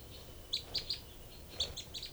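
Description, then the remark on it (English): Two birds call back and forth, one short burst of about three high, sharp chirps answered a second later by a similar burst from the female, over a low background hum with no talking. “Both birds here. 3 and 5. No, that's 3 and 4, the female.”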